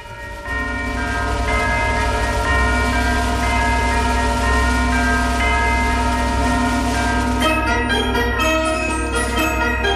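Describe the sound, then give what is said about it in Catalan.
Orchestral music, the Viennese Musical Clock, the second movement of Zoltán Kodály's Háry János suite, with bright, ringing bell-like chimes over sustained tones, playing steadily and loudly without any voices; the texture shifts in the last couple of seconds. “És el segon moviment, que es diu així, un rellotge musical vienès, no?”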